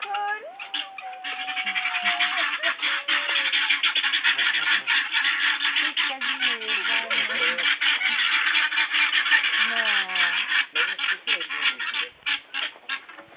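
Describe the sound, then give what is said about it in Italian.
A flock of guinea fowl keeps up a loud, harsh, rattling chatter, their grating calls overlapping continuously, with a few higher whistling notes cutting through now and then. “Questo sono i faraoni.”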